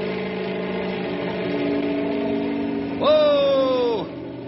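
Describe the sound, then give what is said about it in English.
A helicopter engine drones steadily for a few seconds, then is revved up for better stability before lifting straight up, rising into a louder, higher whine that holds briefly before cutting off. No one speaks. “I'm going to have to rev it up for better stability.”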